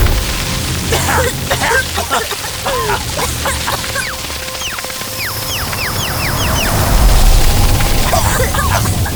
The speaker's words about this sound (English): He's creating a sandstorm to bury the tree.